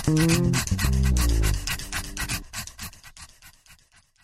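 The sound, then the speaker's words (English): Charlie Yes Dog, a pit bull terrier who hosts the radio show Conversations with Dog, pants rapidly and steadily, the quick rhythmic breaths carrying through a short burst of tonal music at the start and continuing alone after it fades. “I am the mouthpiece of the host Charlie Yes Dog, who is a pit bull terrier hosting his own radio show.”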